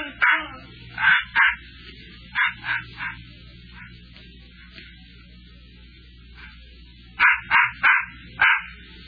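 A puppy named Scuttlebutt barks and yips aboard a ship in quick bursts, mostly in pairs and triplets, loud, with a pause in the middle before another rapid run of high yaps.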